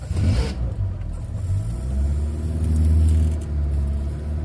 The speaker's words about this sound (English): And you'll be pleased to hear that your guide will chauffeur you around in a Zastava 101, better known to most of the world as the Yugo car.